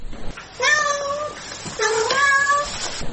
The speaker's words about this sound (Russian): А вы можете им что-то сказать на их языке? Туся! Масяня! Масяня, скажи мяу. Сяня, мяу, скажи мяу.